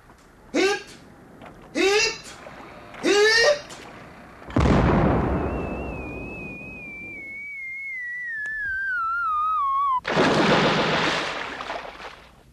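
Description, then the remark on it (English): A ship's crew shouts three short, rising cheers in a ceremonial salute as two fleets pass in review, then a loud cannon boom rumbles out, followed by a long descending whistle and a second heavy blast that lingers. “The order was for cheers and a salute of cannon.”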